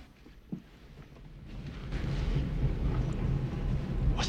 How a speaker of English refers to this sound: Sounds like a train. Uh-uh. These lines have been abandoned for 50 years.